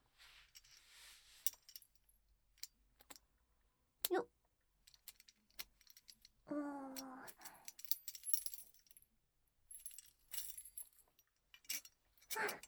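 household object, key unlocking a lock

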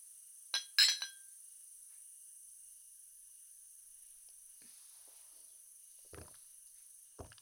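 household object, glasses clinking

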